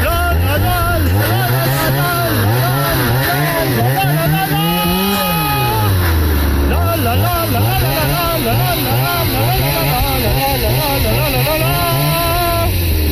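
A chainsaw engine revs up and down in pitch to play a recognizable song melody, its loud buzzing drone rising and falling in steady musical phrases for the whole stretch.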